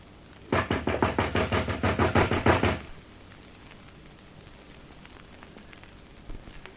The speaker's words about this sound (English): Now, knock just once more.